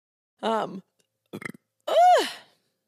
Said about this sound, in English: I apologize. I've been trying not to burp on the internet.